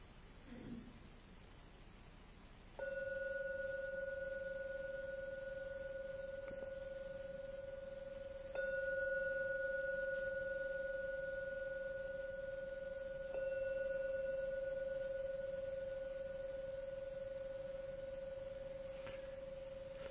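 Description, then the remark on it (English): A meditation gong is struck to end a meditation and rings with a steady, pure mid-pitched tone, struck twice more so the ringing swells again and sustains for about seventeen seconds with no talking. “Oh, knowing the gong to end the meditation.”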